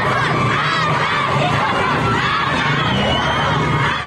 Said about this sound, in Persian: و این فریاد اعتراض دانش آموزان سنندجی بعد از خروج از مدرسه.